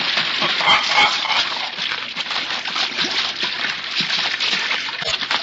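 A goose honks as it splashes into the water, amid continuous, vigorous splashing and sloshing, fairly loud throughout, with scattered sharper splashes breaking through the steady churn.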